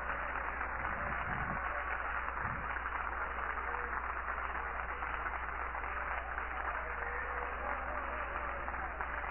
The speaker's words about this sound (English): Clap your hands and entertain the presence of the Lord right now.